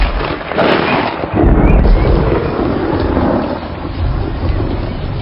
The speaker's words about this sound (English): We must find shelter from the storm.